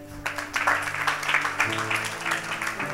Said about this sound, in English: Come and smile to them. Come. Come. Please clap for her.